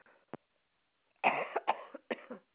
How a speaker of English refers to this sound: Just a moment, I got a cough.